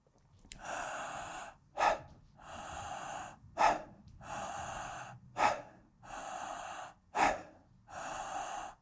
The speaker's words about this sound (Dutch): En de uitademing die daarop volgt is volledig loslaten. En dan pak je hem meteen weer op. Met de inademing. En verbind je die in- en die uitademing en die uit- en die inademing aan elkaar en ontstaat er een circulaire ademhaling.